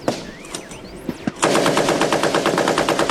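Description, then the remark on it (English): Gunfire from Taliban fighters in Afghanistan, shooting from trenches along a ridge at people who came under fire while driving: a few sharp, scattered shots give way to a loud, sustained burst of rapid automatic fire with a steady, fast rhythm. Faint high chirps are heard at the start. “They're firing at us.”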